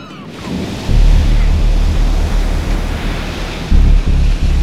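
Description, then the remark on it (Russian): Stormy wind roars alongside heavy sea waves crashing, a loud, continuous rush with deep surging booms swelling in strength, no voices present. “Кажется, буря начинается.”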